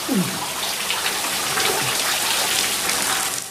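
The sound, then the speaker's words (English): Steady rain pours down outdoors in a dense, continuous hiss as people move out into it, with a few brief low thuds and splashes mixed in and no speech. “They move into the rain.”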